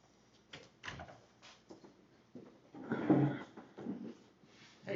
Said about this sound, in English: Hey, that door.